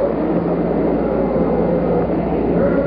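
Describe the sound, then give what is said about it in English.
The massive rocket engine roar of the Apollo 11 liftoff rumbles steadily throughout, dense and powerful with deep low-end thunder and a crackling edge, holding constant loudness with no voices over it. “6, 5, 4, 3, 2, 1-0, all engine running. Liftoff, we have a liftoff.”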